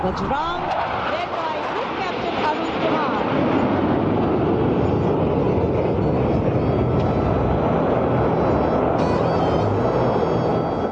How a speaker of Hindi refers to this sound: कार्यक्रम का समापन Rafale, SU-30, C-295, MiG-29, Apache आदि सहित भारतीय वायुसेना के 29 विमानों की फ्लाई पास्ट के साथ हुआ।